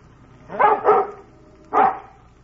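A dog named Bullet barks excitedly and upset, two quick barks followed by another after a short pause, with a third starting at the end; the sharp bursts stand out clearly over quiet background.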